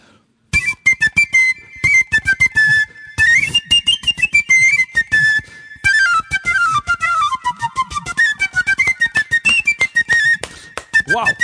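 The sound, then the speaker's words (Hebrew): A piccolo, a small flute about a third the volume of a concert flute and sounding an octave above it, plays a lively run of many quick, shrill high notes, sharply tongued and rising and falling in a melodic line, loud and alone with no talking. “אז זה הפיקולו.”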